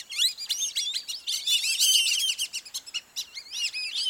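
A large flock of whistling ducks whistles overhead at sunset, heading to nighttime feeding areas, in a dense, overlapping chorus of high, clear whistles that rise and fall continuously. The calls are fairly loud, with no voices present.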